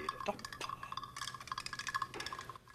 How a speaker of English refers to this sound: He gropes deeper and produces the bloodied yellow sweet. He drops the bloodied sweet into a small tube of water, which he shakes, swishing the sweet around.